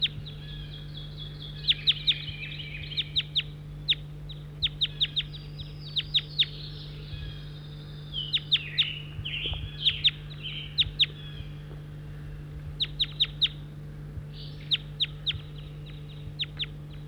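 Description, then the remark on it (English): Several birds call together in clustered bursts of sharp, high-pitched chirps and clicks, some overlapping, over a steady low hum with no talking. “Cheater now as the birds are together.”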